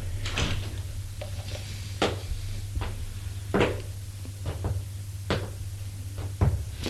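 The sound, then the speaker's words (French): A bolt slid shut on a closed door: a series of sharp clunks and scraping clacks at irregular intervals, over a steady low hum, with no voices. “La ferme avec la targette.”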